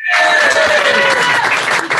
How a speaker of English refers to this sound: That will probably be the biggest applause of the night.